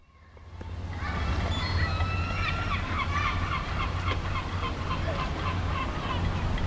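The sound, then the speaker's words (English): A flock of seagulls calling in Cardiff, Wales, many overlapping harsh squawks and cries that fade in and keep going steadily over a low, constant rumble, with no one speaking. “It's a familiar sound in towns and cities across Wales, but there's something about Cardiff that seagulls really like.”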